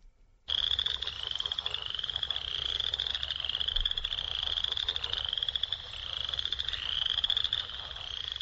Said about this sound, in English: Let's hear one more representative of a vernal pool. This is the Western Chorus Frogs and Northern Leopard Frogs doing a piece from, I don't know what.